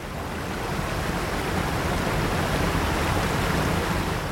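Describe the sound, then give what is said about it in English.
A waterfall roars with a steady, dense rush of churning water, loud, holding an even level throughout with no pauses and no voices. “A loud and intrusive natural sound, such as a waterfall, has evolved as part of an ecosystem over a long period of time.”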